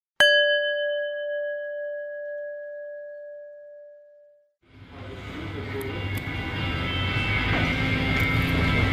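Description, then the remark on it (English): A single clear bell strike, an audio-tour cue to pause playback at the final stop, Repressed Records, rings out and slowly fades over about four seconds, then a steady rumbling engine-like noise starts up and continues. “Now press pause when you hear the bell, and when you are ready, press play again”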